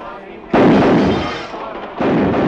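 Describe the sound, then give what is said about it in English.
Two sharp, loud gunshots fired at crackers tossed into the air: the first blast cracks out and rings down slowly over more than a second, then a second shot bursts in about one and a half seconds later. “You weren't supposed to shoot that time.”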